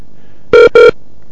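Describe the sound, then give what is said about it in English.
A softphone rings for incoming calls from two people calling at once: two short, bright electronic tone bursts in quick succession, loud and clear with no talking. “We have two people calling on our soft phone.”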